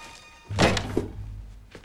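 A soft, dull thunk as a square parcel wrapped in brown paper and string is set down on a wooden bedside table, followed by a faint second knock and a low lingering rumble; no voices.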